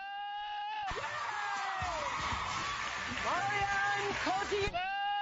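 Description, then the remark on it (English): Loud goat bleating with a wavering, scream-like cry, mashed up with Oprah Winfrey introducing celebrities on The Oprah Winfrey Show, a noisy, cheering crowd in the middle, ending on another sharp bleat. “So anyway, Oprah Winfrey, the Oprah Winfrey Show, as of Friday, that was her last repeat of her last show, and someone decided to mash up the goat with Oprah Winfrey introducing celebrities.”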